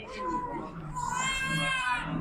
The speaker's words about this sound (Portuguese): No choro de alegria e de dor.